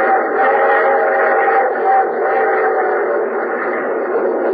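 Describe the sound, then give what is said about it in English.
A train rolls steadily along the rails from a southeastern coastal city toward a disaster area, a continuous muffled rumble and hum that holds even for several seconds, heard as if from inside the carriage, with no one speaking. “We landed at one of the southeastern coastal cities and took a train the rest of the way.”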